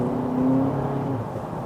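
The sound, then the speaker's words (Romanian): A steady, synthetic-sounding car engine drone with a sustained low tonal hum that swells briefly, an artificial sporty engine note played with the car in sport mode, with no talking. “Acum suntem în modul sport și ăsta este cel mai fake zgomot de motor sport pe care l-am auzit.”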